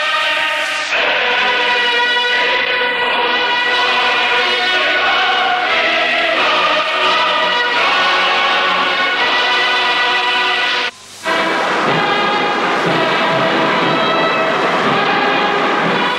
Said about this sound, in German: Panzerzug fuhr im Anhalter Bahnhof ein.